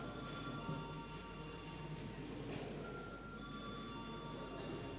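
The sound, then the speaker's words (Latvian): A parliament voting bell rings as a steady, continuous electric tone with a few high pitched layers, sustained for the whole stretch at low volume with no talking over it. It is rung before the vote on amendments to the energy law in the final reading. “Lūdzu zvanu.”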